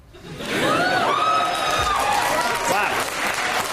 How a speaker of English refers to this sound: Now, listen to all the women applauding. And some men, let's be fair. And some men.